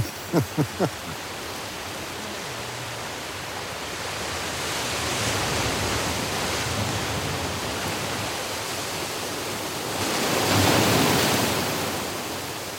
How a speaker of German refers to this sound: Wir schauen auf die Wellen, die himmelhoch jauchzen und dann wie schwer betrübt in die Tiefe tauchen.